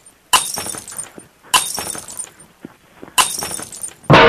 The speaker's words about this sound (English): Okay, I found some glass things. I can't tell what they are. I'm throwing them on the floor.